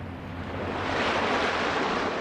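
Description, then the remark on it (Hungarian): Broad, rushing surf of large waves thrown up by a big passing ship builds and swells louder, a continuous wash of water with a low rumble underneath, with no voices. “Jó nagy hullámokat ver.”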